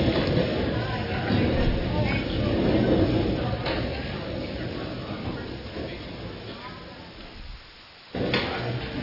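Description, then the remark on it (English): A room full of chairs scraping and shifting at once as people stand up, pull out their chairs and turn to face one another in small circles; a dense, continuous clatter of furniture being dragged with a busy murmur of people underneath, dropping briefly before rising again. “Pull out your chair a little bit.”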